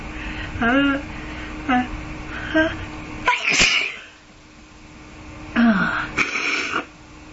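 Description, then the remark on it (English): A series of loud sneezes, with short wheezy inhales building up between them, and a couple more bursts near the end. “No more sneezes, please.”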